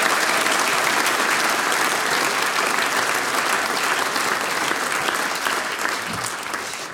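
An audience claps steadily for about seven seconds, a dense, continuous wash of many hands at a fairly loud level that eases off slightly toward the end.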